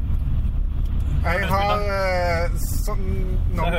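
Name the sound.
inside a car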